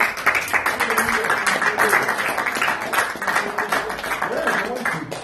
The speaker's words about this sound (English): You need to give these people a hand. Mm-hmm. You need to thank God. You need to pray. You need to clap your hands and thank them. Tell them right now, thank you for your service and music.